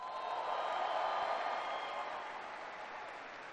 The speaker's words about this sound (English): somebody who has been a leader for you and a leader for our country for a very long time, give your commander, General John Allen, a big, big round of applause.